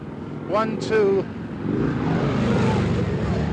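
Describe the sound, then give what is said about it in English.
A brief shout or raised voice rings out, then the buzzing engine noise of four police motor scooters swells and grows louder as they approach through a noisy street scene during a demonstration in Washington, with traffic stopped. “Here come the police.”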